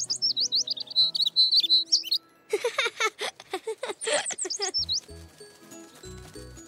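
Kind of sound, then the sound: bird, baby bird chirping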